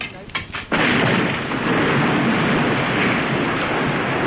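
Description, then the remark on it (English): A few sharp knocks give way to a sudden, thunderous crash as a fire escape is brought down, followed by a sustained roaring rumble of collapsing metal that stays loud for several seconds. “I think they're about to bring that fire escape down.”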